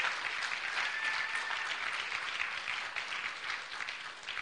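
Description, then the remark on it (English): A crowd of people clapping together as a clap offering to the Lord, sustained, dense applause, a steady wash of many overlapping claps that holds at a fairly even level throughout with no voices. “Can we just give the Lord a clap offering for that?”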